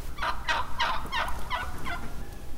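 A wild turkey gobbles in a rapid, rattling burst of about six throaty pulses that trail off, clear over a low background rumble.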